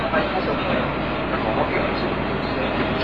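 Steady, enveloping rumble inside a moving overnight train of 11 cars bound for Tokyo, a continuous low roar of wheels and carriage noise at even loudness throughout, with no clear voices on top.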